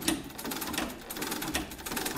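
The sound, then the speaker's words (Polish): A sewing machine clatters steadily, its rapid mechanical ticking running continuously at a moderate level with no voices. “jego dzieciństwo kojarzy się tylko i wyłącznie z terkotem maszyny do szycia, ponieważ to była jedyna muzyka, jedyny dźwięk, który towarzyszył mu od rana do wieczora.”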